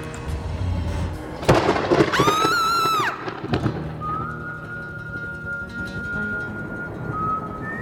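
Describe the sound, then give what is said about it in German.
A sharp thunderclap bursts out and rolls into a long, low rumble of storm, joined briefly by an eerie wavering whistle, then a thin steady tone lingers over the fading roar. “Es fehlt eigentlich nur noch Gewitter.”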